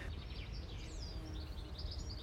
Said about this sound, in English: Yes, not a whinny, not a neigh, but the wind and birdsong. Whatever that is, blackbirds and barn swallows I can see flitting around.